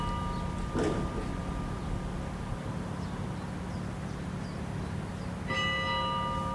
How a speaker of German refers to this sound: Jetzt hören wir die Glocken.